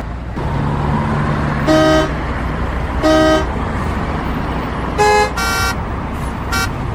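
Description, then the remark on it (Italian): Busy New York City traffic on an afternoon in 2019 rumbles steadily while car horns honk repeatedly, a few short blasts spaced apart and then a quick cluster of toots near the end, loud over the road noise. “Mi ritrovavo in mezzo al traffico della Grande Mela, con il suo continuo movimento, il suo perenne inarrestarsi, i suoi clacson a tutte le ore.”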